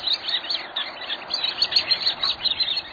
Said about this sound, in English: the sanderling, the small pale sandpiper we often see on summer beaches, a bird that makes a round trip of some 16,000 miles between Greenland and Chile.